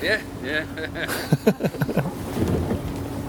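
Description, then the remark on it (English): A boat's motors drone steadily at a low pitch as the boat pulls away, with wind buffeting the microphone, while several people talk over the engine noise. “I honestly haven't felt any motion that isn't driven by our motors, and our motors have just kicked in.”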